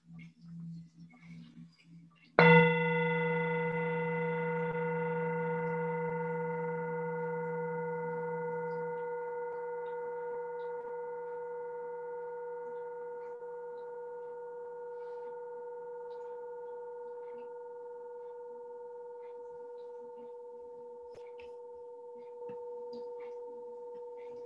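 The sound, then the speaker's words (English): A single meditation bell is struck once during a guided meditation practice, its bright layered tones ringing out clearly and then slowly fading over about twenty seconds, with a faint low hum underneath and no talking. “Listen to the bell until you can no longer hear it.”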